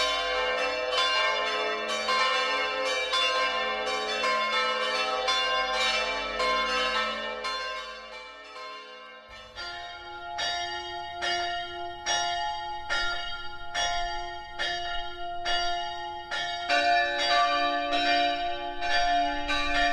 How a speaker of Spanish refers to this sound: Las campanas se llevan haciendo miles de años. Es fascinante que incluso las más antiguas se elaborasen perfectamente, sin que los campaneros dispusieran de los recursos que tenemos hoy en día,